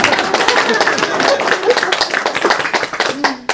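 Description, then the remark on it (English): An audience applauds steadily, with dense, rapid clapping throughout and a few voices calling out beneath it, ending in a brief lull. “She needs a hand of applause for that.”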